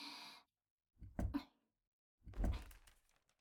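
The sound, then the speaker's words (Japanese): A woman climbs up onto a desk instead of a chair: a brief rustle, then two heavy thumps of knees or feet landing on the desk surface, with short pauses between them and no talking. “椅子だとできないから、デスクの上乗っちゃおっと。”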